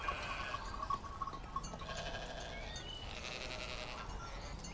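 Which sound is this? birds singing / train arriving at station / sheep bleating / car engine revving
sheep bleating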